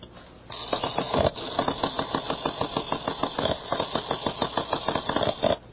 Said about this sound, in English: Do you mean to tell me you've been playing with that silly printing calculator all this time?